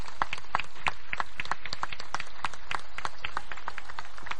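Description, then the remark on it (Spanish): A crowd applauds steadily as children come out to present a team's new kit, crest and colours, dense overlapping claps forming a loud, continuous patter throughout with no pause and no voices rising above it. “Y los vamos a recibir, por favor, con un fuerte aplauso.”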